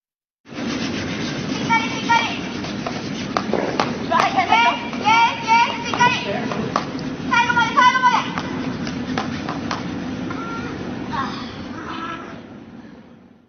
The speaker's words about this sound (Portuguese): Então vamos ouvir a gente varrendo agora literalmente o gelo.